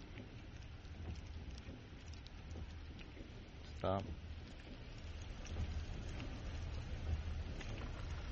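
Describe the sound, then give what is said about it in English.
Steady rain patters and hisses throughout, with a low rumble underneath from a car driving past a house. A single short word is spoken partway through. “Of course, that'd be raining the day I drove by.”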